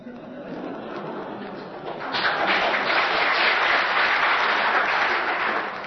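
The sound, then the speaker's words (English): An audience applauds a question put to a speaker, a dense, steady wash of clapping that swells noticeably louder after about two seconds and holds strong before easing slightly at the end. “Is that that applause, I take it, is for the question and not for my answer?”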